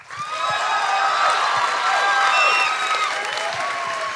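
An audience, applauding to vote on a question put to them, breaks into loud, steady applause mixed with rising cheers and whoops, a dense roar of clapping and shouting voices that holds for about four seconds.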